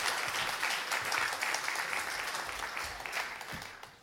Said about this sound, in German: Genau, euer Applaus.